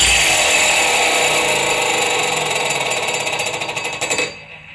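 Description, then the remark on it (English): A metal ring whirs and rattles loudly as it is spun around a door handle, its inner ring, slightly wider than the handle, making the noise; the clatter turns into quickening pulses before it abruptly stops, leaving silence. “then it will sound like an engine slowing down, because it runs around the door handle so much so that it's actually the inner ring, which is slightly wider than the door handle is, that makes it make a great noise.”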